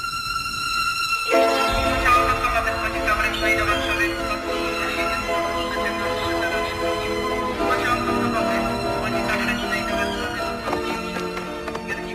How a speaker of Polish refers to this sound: wbiega spóźniony na dworcowy peron, żeby dogonić odjeżdżający pociąg